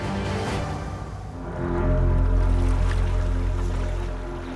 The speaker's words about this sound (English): watched the water lap softly against the side of the fishing boat, the last rays of setting sun glancing off the surface.